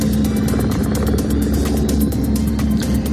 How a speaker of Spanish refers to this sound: Este sonido, el de los helicópteros sobrevolando pastos y montes, es la banda sonora de estas últimas 24 horas en Madrid, porque al incendio de Loeches, que ha quemado unas 700 hectáreas, hay que sumar otros tres,